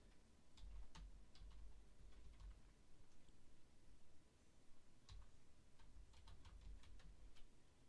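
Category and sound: household object, typing on a keyboard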